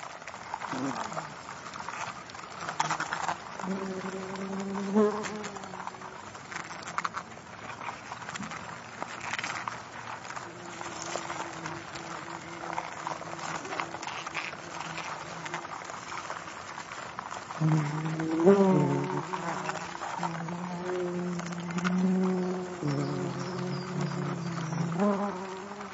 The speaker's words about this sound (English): The next one is of the general sounds of a wasp nest, the one in the corner of my shed.